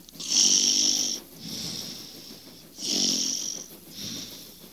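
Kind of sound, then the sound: human body sound, man snoring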